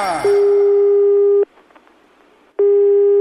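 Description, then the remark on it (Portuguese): A telephone busy tone after a caller hangs up: a steady, mid-pitched electronic beep sounds for over a second, pauses, then starts again, following a brief click of the line dropping. “Alô? Desligou.”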